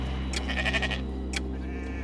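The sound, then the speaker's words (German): A sheep bleats in a wavering, drawn-out call, followed a moment later by a shorter second bleat, over a steady low background hum. “Auch Schafe bewohnen den Ort, bewegen sich frei über Grünflächen, dürfen aber nicht überall rein.”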